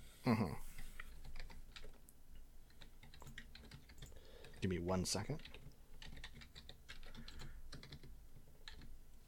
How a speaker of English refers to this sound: I've been typing these as we go, and it's been kind of fucking annoying. And it's let me just type up the rest of them, and then we can do this.